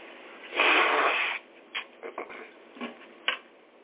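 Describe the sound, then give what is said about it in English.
A loud, sustained nose blow lasting almost a second, followed by several short, quieter snorts and sniffs spaced irregularly afterward. No one speaks. “Excuse me while I clean my nose.”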